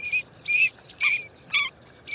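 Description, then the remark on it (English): Green-winged teal, North America's smallest dabbling duck, give short, high, whistled peeps in a loose rhythm, five bursts over about two seconds, each a bright chirp like a cricket or tiny frog, with no other sounds. “These are green-winged teal, North America's smallest dabbling duck.”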